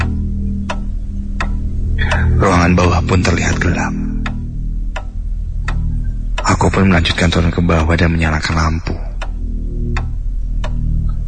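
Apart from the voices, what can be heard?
wall clock ticking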